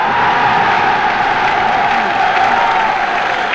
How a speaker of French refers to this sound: La foule exulte, mais le gouvernement canadien s'étrangle.